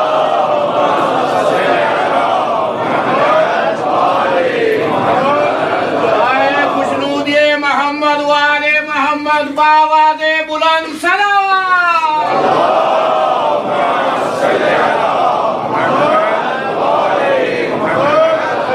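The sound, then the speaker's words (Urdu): A large crowd recites salawat together in loud unison, the mass of voices rising and falling rhythmically, with a sustained, held tone in the middle stretch before the group recitation resumes. “ایک صلوات پڑھیے.”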